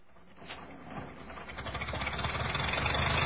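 A car engine idles with a steady, rough low rumble and a faint rhythmic chug, growing gradually louder over a few seconds, with no voices.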